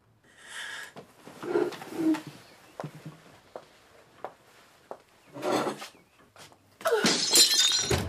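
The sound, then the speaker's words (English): A glass vase tips over and shatters, with a scatter of sharp, bright breaking crashes and tinkling shards, followed by a loud burst of smashing glass near the end. “I hear a noise. Oh, it's nothing, Celestine. I knocked a vase.”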